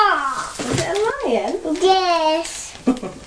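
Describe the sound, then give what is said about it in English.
A young child playing with a lion mask does a playful lion roar with their voice, a drawn-out, wavering cry that rises and falls in pitch over a few seconds, ending with a short extra burst. “roar! Is it a lion? Yes. Scary lion.”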